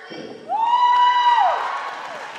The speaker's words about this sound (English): Students cheer from the bleachers as some of them are called out for honorable mentions and best of shows. There are over a dozen categories.